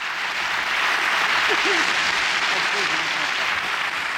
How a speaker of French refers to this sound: et en public à Lausanne en 1970. De vrais applaudissements nourris.